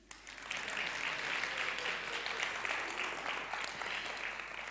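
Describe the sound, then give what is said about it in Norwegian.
An audience claps steadily for several seconds, a dense, even wash of many hands that starts abruptly and holds at a strong, constant level with no voices on top. “Og det andre at jeg trenger en applaus.”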